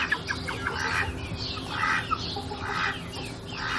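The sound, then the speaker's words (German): Several very young hens cluck and chirp in short, overlapping bursts against a steady low hum of outdoor background noise. “Das sind sehr junge Hennen.”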